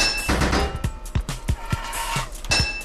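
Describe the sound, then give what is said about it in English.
A run of sharp, metallic hammer clanks striking pipes in a video game, several quick hits in uneven rhythm over a steady, ringing tonal background. “3 hits of your hammer.”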